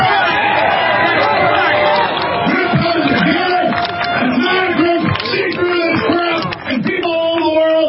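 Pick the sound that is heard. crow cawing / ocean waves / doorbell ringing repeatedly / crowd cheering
crowd cheering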